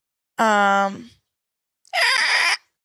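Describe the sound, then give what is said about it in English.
A person imitates an eagle cry with two strained vocal screeches: a tonal, wavering wail, a pause, then a harsher, raspier shriek, both loud and brief. “How does an eagle sound?”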